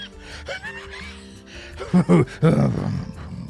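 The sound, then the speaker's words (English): A voice imitates a brain powering up like a sputtering old jalopy engine: soft rumbling and whining, then three or four loud, rough, choppy vocal bursts that cough and splutter before trailing off. “It sounds like a jalopy.”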